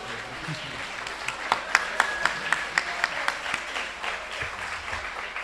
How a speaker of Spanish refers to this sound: Un aplauso sí, para